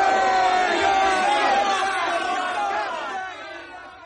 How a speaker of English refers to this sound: Here they come. NASA's pals demonstrating their right to free speech while others are being asked to die for it. Let's give them a big cheer, shall we?